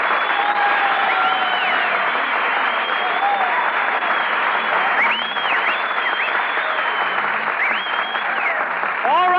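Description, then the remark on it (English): Sustained audience applause for MGM star Marilyn Maxwell as she is introduced as a guest, a dense steady clatter of many hands clapping at an even loudness for the whole stretch, with faint whistles rising through it. “Stop applauding. Who's applauding?”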